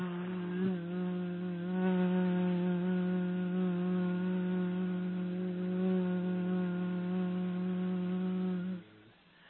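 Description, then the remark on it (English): A single long, steady buzzing "zzz" made with the upper and lower front teeth lightly touching, held at one low pitch with a gritty edge for about nine seconds before stopping abruptly. No talking. “And what you do is you just put your upper and lower front teeth together lightly, very lightly, and then barely touching those teeth, you make the Z sound.”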